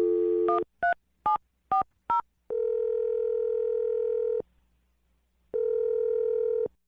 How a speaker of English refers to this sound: We're going to dial the phone number for you right now, okay? Great. All right, here we go.